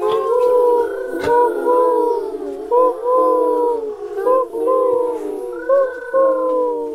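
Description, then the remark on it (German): Owls hooting: several drawn-out, tonal hoots overlap and rise and fall continuously, loud, with no talking. “Die Eulen.”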